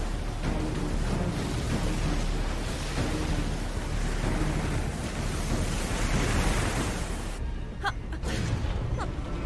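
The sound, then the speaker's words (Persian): Loud, continuous roar of wind and crashing waves, a dense wash of storm noise at sea that barely lets up, with heavy gusts buffeting throughout. “چی؟ وسط طوفان؟ آره احمق، وسط طوفان.”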